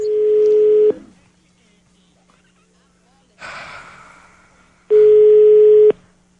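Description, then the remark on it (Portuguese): Two loud, steady telephone line tones after a hang-up, each lasting about a second and separated by a pause, with a short breathy gasp or snort between them. “Desliga o telefone, você tá com medo, desliga! Desligou.”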